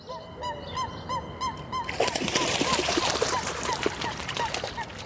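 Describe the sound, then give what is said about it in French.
Calls of black kites circling over a river ring out in a steady series of short, high, slightly whistling cries, continuing over a rising bed of rushing background noise partway through. “Les milans qui ont un cri particulier et qui tournent.”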